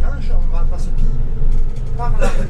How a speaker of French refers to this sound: Bus.